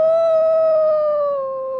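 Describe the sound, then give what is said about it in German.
A single long wolf howl, held steady before sliding gently downward in pitch near the end, loud and clear with no voices around it. “Ich höre die Wölfe schon heulen.”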